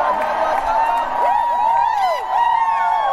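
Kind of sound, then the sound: crowd, crowd shouting a chant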